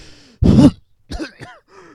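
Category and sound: human body sound, coughing and throat clearing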